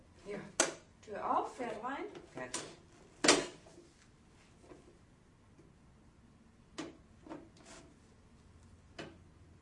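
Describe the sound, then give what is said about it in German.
A small toy stable door clacks open and a toy horse is set inside: a handful of sharp wooden clicks and knocks spaced out over several seconds, with brief speech near the start. “Aber das kann ja in den Stall rein. Guck mal, Tür auf, Pferd rein.”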